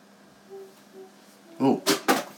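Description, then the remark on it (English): Near the end of a wrestling match, a couple of loud metallic clanks sound as a steel chair is grabbed and set down, mixed with a burst of voices after a quiet stretch of faint tones. “We got a steel chair.”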